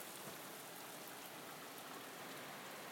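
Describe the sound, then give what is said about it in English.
Steady, soft rain hisses outside, heard at a window after it has eased off a bit, in an even wash of pattering with no clear change in intensity. It is fairly quiet, and no one speaks. “It's eased off a bit, but you get the general idea.”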